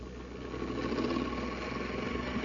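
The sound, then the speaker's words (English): The Space Patrol machine, a robot machine with a mechanical brain, whirs and hums steadily, a continuous low mechanical drone with a faint pulsing buzz that swells slightly after the start and holds. No one speaks. “It's the amazing Space Patrol machine with a mechanical brain.”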